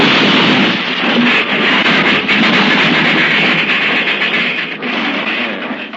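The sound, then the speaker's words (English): A train derailment crash: a loud, dense roar of grinding, clattering metal and rumbling that holds steady for several seconds with no voices, ending in a slightly ragged rush of noise. “A derailment, an accident which he wouldn't be held responsible for.”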